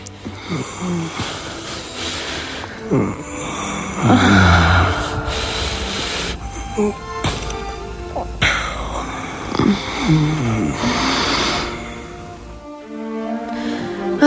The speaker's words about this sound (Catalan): Però el bes aclamat, esperat, desitjat, és el bes de l'amant. Apassionat, fogós, un bes que sonaria més o menys així.